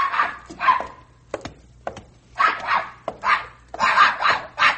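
A dog named Pepper barks repeatedly while playing, in short, excited bursts, some yappy, with brief clicks and pauses between barks and a low hum underneath.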